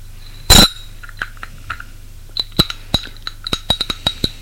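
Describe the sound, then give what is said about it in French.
Glasses clink as people take a sip of their drinks in silence: a sharp opening knock, then a scattered run of bright, ringing taps that quicken toward the end. No one speaks. “Ils boivent une gorgée en silence.”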